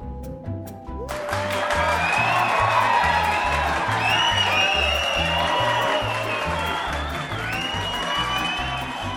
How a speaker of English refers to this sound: And the sound of our cheering fans means that it's time for a little bubbly, bibbly promo.